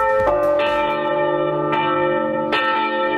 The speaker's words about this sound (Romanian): Clopote la înmormântare la Vaslui